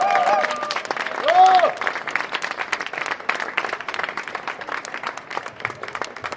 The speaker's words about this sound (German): Dafür sei auch mal ein Applaus.